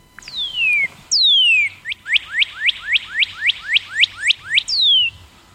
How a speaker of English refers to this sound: So probably the most common bird in my area would be Northern Cardinal. The Northern Cardinal. And I'm going to let you hear what the Northern Cardinal sounds like.